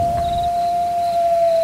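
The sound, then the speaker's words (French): A long, steady wolf howl holds one sustained pitch for the whole moment, loud, with nothing else audible and no talking. “Les loups ont envie de manger.”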